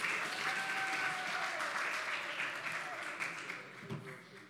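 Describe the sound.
A crowd claps in a steady, dense wash of applause lasting several seconds, with a few whoops and voices mixed in, tapering slightly toward the end.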